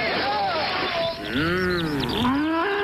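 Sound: cows mooing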